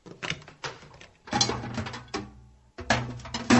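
A microwave's turntable parts are lifted out and a plate set inside, heard as a series of rattling, clunking bursts with a brief silence before a final clatter. No one speaks.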